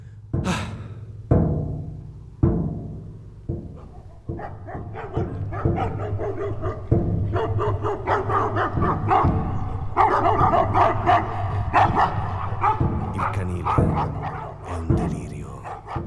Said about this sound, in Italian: Sente i cani che abbaiano fin dalla strada.